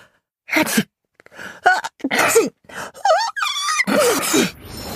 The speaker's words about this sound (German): gleich dreimal niesen muss. Manometer, immer dieser blöde Niesreiz.